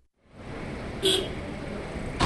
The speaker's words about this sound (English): One by one, they pull up. Sleek new cars carrying black-clad lawyers with armfuls of papers. They've come here to Pakistan's Supreme Court to grapple over the future of their military ruler, General Pervez Musharraf.